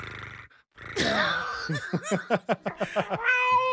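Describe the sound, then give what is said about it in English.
Someone imitates a cat, starting with a loud, wavering meow, then a rapid run of about nine short yowling pulses, ending on a held whiny note. Alone, with no talking. “A meow. It's more like a.”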